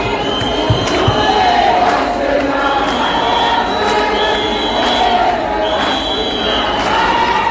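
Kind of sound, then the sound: crowd, crowd chanting and singing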